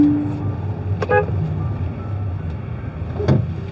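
A driver gives a brief car horn toot to let another car go ahead, cutting through steady road traffic rumble, followed later by another short vehicle sound as cars continue passing.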